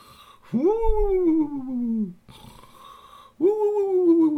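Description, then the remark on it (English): A voice imitates snoring with two long, drawn-out nasal snores separated by a quieter breathy inhale, fairly loud, each snore gliding up then slowly sagging in pitch. “So he lay on his back, and he had his legs bent at his knees, and they were sitting on the floor, and he was snoring.”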